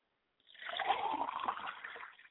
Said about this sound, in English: I like to pour a glass of water for my father, and I say Ashe. I pour a glass of water for my mother, and I say, Ashe.